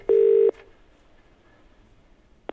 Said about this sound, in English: You got a phone call, didn't you? From, well, let's hear who it was from.